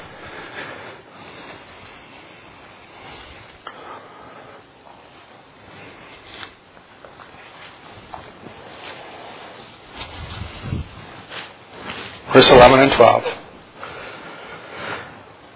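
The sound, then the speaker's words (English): Soft papery rustling of book pages being turned to Hebrews chapter 9 runs throughout, swelling into a louder, crisp burst of flipping near the end, with a man's voice speaking briefly over it. “I hear some pages turning, so I'll wait just a second.”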